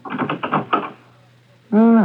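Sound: knock on a door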